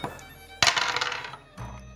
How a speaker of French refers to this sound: Vas-y, lance un dé, fais moins de 90.